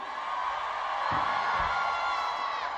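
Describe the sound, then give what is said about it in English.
A dense, high-pitched roar of audience screaming and cheering fills the space, loud and sustained from start to finish, with many voices, largely women's, shrieking together at once in response to a call for the ladies to scream. “I want to hear all the ladies for this year coming up. Scream!”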